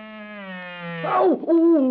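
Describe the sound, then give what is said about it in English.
A mosquito's nasal buzz drones steadily, then swells louder and wavers in pitch as it swoops toward Crazy Quilt, with no one talking. “Oh, dear, it's one of those military-minded mosquitoes, and he's making right for Crazy Quilt.”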